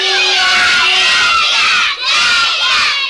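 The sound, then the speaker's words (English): A crowd of children shouting together about day camp in loud, sustained unison, a dense chorus of high voices that briefly dips before surging again, like an angry chanting protest. “They're shouting about day camp, what do we do? I think it's a revolt.”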